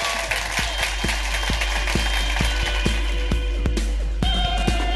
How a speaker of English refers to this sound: Will you please give a massive round of applause for amazing Suze Kempner?